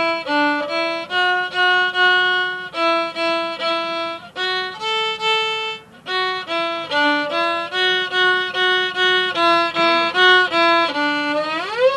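A recorder plays a simple melody alone and up close, with clear, evenly spaced notes in steady phrases, a brief pause midway, and a rising slide near the end.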